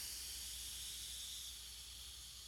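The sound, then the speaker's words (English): A steady, continuous hiss like steam escaping, bright and airy, holding evenly for a couple of seconds and easing off slightly toward the end, with no talking. “You're like steam escaping.”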